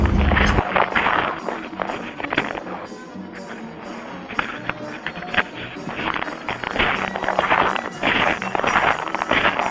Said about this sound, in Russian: Так скрипит наш снег. Это наши шаги.